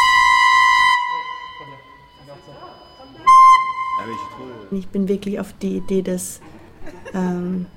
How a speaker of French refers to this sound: mis en état d'alerte, c'est pour ça qu'on entend toutes ces sirènes, et s'est mis à décrocher d'immenses rochers de la montagne pour les lancer au loin sur les navires. Donc c'est un peu aussi, ça correspond à toutes les explosions qu'on entend.